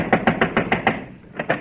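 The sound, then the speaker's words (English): A rapid series of six sharp knocks on a door, a brief pause, then two more quick raps. The knocks are loud and hollow, with no voices. “Thought I heard a knock.”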